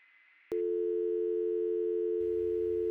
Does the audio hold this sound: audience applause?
no